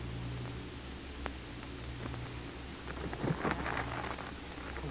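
A steady hiss of heavy rain over a low rumbling storm, with a louder surge of splashing and crackling near the middle. No voices are heard.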